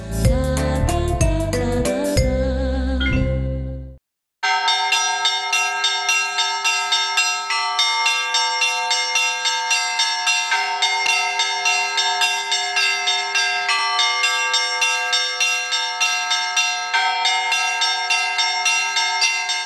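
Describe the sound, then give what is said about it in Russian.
Bells of a wooden church in the village of Kuvashi ring out in a rapid, continuous, joyful peal calling believers to the Divine Liturgy, bright overlapping tones struck in a steady rhythm, loud, after a brief burst of dense clanging and a short pause. “Радостный звон в селе Куваши созывает верующих на божественную литургию.”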